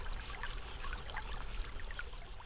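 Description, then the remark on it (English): Steady flowing river water, a continuous wash with small gurgles and splashes scattered throughout, even in level, with no voices. “This is the river, deep and still, that flows at last from the foot of the hill into the broad green valley below, where corn and wheat and grasses grow.”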